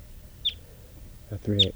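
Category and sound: bird, birds calling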